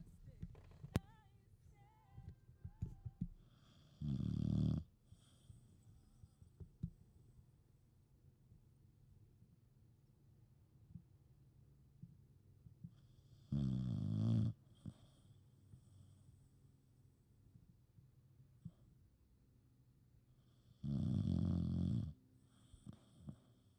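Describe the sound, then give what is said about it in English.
A dog snores loudly into a microphone right up close, with three long, rumbling snores spaced several seconds apart and quieter breathing in between. “I give you my assistant editor, Sunny, as she snores into the mic next to me”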